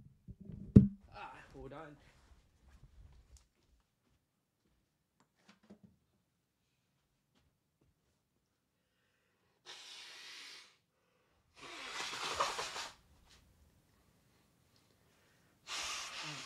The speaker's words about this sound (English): I'm going to blow my nose.